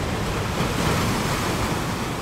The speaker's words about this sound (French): À la question, si tu étais une ambiance sonore dans laquelle tu te sens bien, je répondrai à la fois le calme qu'apporte le bruit des vagues qui glissent sur le sable lors de mes siestes ensoleillées.